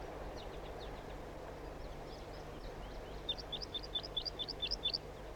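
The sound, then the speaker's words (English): Wild bird flight calls: a series of short, high chirps, faint at first, then a louder run of about eight rapid, evenly spaced notes over a steady low hum. “Start recording flight calls of the birds.”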